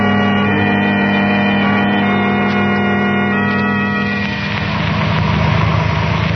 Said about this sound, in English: The car with Herbert and the girls just pulling over to the curb, Dr. Dharma.